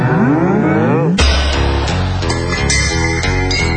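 A single loud, drawn-out cow moo with a wavering pitch, cut off after about a second as loud, beat-driven music abruptly takes over.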